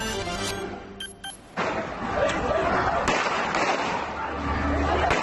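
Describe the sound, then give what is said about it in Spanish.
Several sharp gunshots crack out at irregular intervals, some close together, as Mossos d'Esquadra police shoot down a terrorist suspect in Cambrils, over a noisy outdoor background of crowd murmur and shouting voices. “Y este es el momento en el que uno de los terroristas de Cambrils es abatido a tiros por los Mossos d'Esquadra.”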